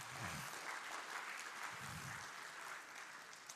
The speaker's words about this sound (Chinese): 我们给愿意侍奉的弟兄姐妹掌声好不好？